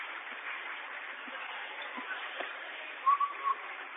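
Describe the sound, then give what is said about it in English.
Three short, sharp whistle blasts in quick succession near the end, a referee calling a foul during a basketball game involving Troy, cutting through a steady wash of crowd noise in a gym. “Try it again, whistling a foul on the floor.”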